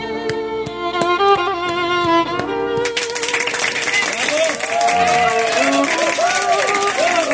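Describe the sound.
A few seconds of steady, pitched tones give way to a loud, dense burst of crowd applause mixed with cheering and whooping voices that carries on to the end.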